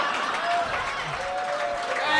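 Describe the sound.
An audience applauds a joke about the Double Deuce bar in a steady, dense wash of clapping that holds its loudness for a couple of seconds, with a few voices and cheers mixed into the noise.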